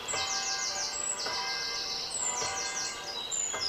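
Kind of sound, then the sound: bird, birdsong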